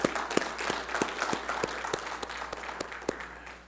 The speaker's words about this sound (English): Yeah, let's hand clap for Jesus, right?